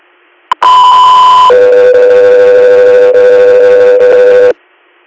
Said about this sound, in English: Sound 3 here, stand by for tones.